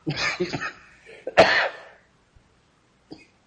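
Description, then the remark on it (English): A forceful burst of several rapid coughs from a sinus tickle, ending in a harsh throat-clearing hack, followed by quiet and a faint short cough near the end. “That's what's known as a sinus tickle. Nothing in the world helps that except vigorous coughing.”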